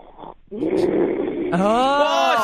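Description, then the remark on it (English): Someone imitates their mother's loud, guttural inhale-and-exhale snoring, likened to a freight train, with a rough, growling voice. The rasping rumble rises into a strained, higher-pitched groan, one continuous effort lasting about two seconds. “Your mom snores loud? Oh, God, yes. She sounds like a freight train coming through your living room.”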